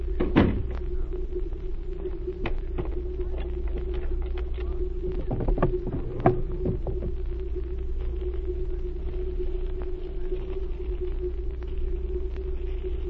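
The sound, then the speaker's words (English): A door on a ship shuts with a few sharp knocks and a rattling clunk, set against a steady low engine hum and rumble that runs throughout. No one speaks. “Close the door and wait.”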